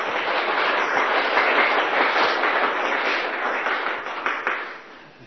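Warm applause from a large crowd inviting an elderly Buddhist master to give a Dharma teaching, a dense, steady wash of many hands clapping that holds strong for several seconds and then begins to taper off at the end, with no voices heard.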